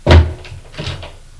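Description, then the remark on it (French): A door bumps open with a heavy low thud as a man enters a room off a first-floor corridor, followed by a softer, muffled knock of it swinging shut a moment later. No voices. “Il entre.”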